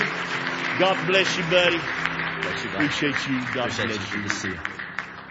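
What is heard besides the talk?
audience applauding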